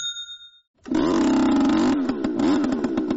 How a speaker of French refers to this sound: Ce moteur, c'est celui d'une souffleuse de feuilles reconvertie en machine de mort. Raccordée à un tuyau, elle relâche du monoxyde de carbone dans des terriers de lapins qui pullulent dans cette banlieue pavillonnaire de Melbourne.